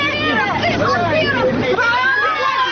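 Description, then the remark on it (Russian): An indignant crowd blocking the way of a police car shouts and clamors continuously, a dense mass of raised, overlapping voices, loud and agitated, with no single speaker standing out from the hubbub. “Движение полицейскому автомобилю преграждает возмущенная толпа.”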